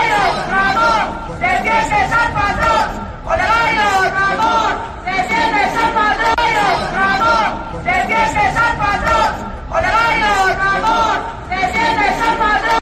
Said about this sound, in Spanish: Los empleados le gritaron al regidor: ni socialista ni obrero. Olegal Ramón, defiendes al patrón. Escuchamos esos gritos.